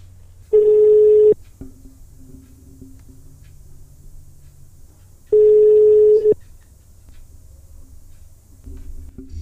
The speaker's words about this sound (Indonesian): Kita calling dia ya. Kita telepon aja.